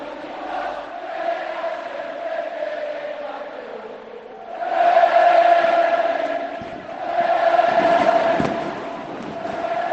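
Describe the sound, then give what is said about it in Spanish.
A huge crowd of Betis fans at the Benito Villamarín stadium sings the Betis anthem a cappella. The sustained, droning mass of voices swells loudly twice, and a few sharp bangs cut through near the end as fireworks go off. “Hay fuegos artificiales en el Benito Villamarín, canta el himno a capela del Betis, la afición de este bendito estadio que despide a su rey.”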